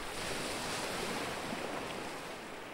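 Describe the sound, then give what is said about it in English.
Steady ocean surf washes in continuously, a broad roar of breaking waves with a faint wind rush and no voices. “Just focusing on the waves and your gentle breathing in and out.”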